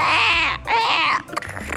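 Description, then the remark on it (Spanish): A voice imitates a woodpecker with two loud, shrill, wavering cries in quick succession, followed by a moment of softer background noise. “Ese es el pájaro carpintero.”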